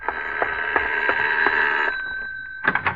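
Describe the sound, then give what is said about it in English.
A doorbell rings with a loud, shrill, rattling electric tone, held for nearly two seconds, then pressed again in a few quick short bursts. No one speaks. “Ah, sorry to lean on the bell like that, Mrs. Thorpe.”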